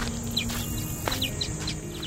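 birds chirping

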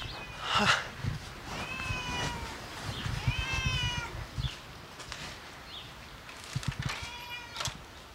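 cat meowing

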